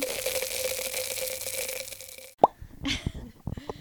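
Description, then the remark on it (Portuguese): Glasses clink together once in an inaugural toast, a sharp bright tap with a short ring, following a steady background hum. Soft clattering and faint movement come after. “Vamos começar com um brinde inaugural, não é?”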